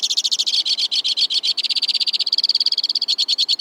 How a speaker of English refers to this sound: From the tip-top of a black spruce, a white-winged crossbill sings a rapid-fire tribute to winter. He's got good reason to sing. Even in the cold, crossbills are nesting.